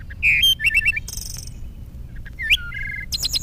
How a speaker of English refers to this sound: The song of a bird.